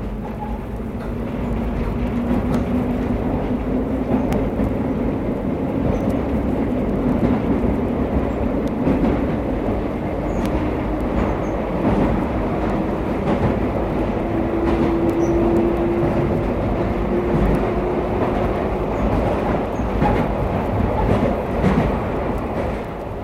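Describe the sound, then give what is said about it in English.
A London Underground Tube train rumbles steadily along the track beneath London, a loud continuous low roar with rattling and a rising whine of the motors that swells and fades, heard from inside the carriage with no talking. “There's no quicker way to travel than on the Tube, the large underground railway network that lies beneath London.”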